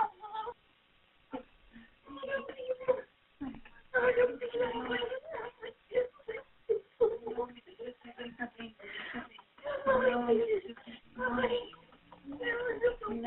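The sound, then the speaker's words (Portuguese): A baby boy whimpers and fusses in short, broken bursts of grumbling cries with brief pauses, never building into full wailing, heard through a thin, phone-like sound while he is being patted on the back. “Não, ele tá só resmungando.”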